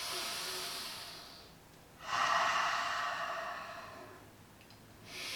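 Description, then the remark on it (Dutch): Slow, deliberate breaths drawn in and let out through the nose, each one a long airy rush with a short pause between, with no talking. “En ik wil je vragen, haal een paar keer bewust adem.”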